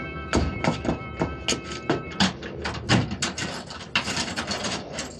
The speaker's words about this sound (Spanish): El guardia cierra la puerta